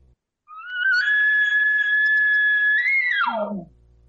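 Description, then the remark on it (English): A voice imitates a long, drawn-out cow call: one steady, high, reedy tone held for nearly three seconds, then sliding sharply downward in pitch at the end. It is loud and there is no talk. “Elongated cow sound.”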